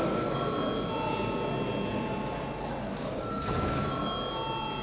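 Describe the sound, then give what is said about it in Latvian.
The voting bell of the Saeima, the Latvian parliament, rings before a vote on a bill's first reading, as one continuous, steady electric tone for about five seconds, bright and sustained at an even loudness, with a faint room murmur underneath. “Lūdzu zvanu.”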